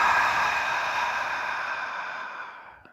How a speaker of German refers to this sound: Und dann atmet einmal ganz tief, tief, tief ein, richtet euch damit auf und durch den Mund hauchend aus.